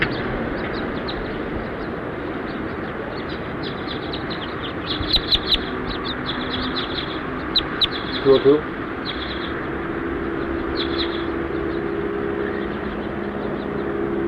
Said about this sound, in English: Recording bird 202.